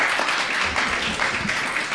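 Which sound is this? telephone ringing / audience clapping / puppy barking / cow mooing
audience clapping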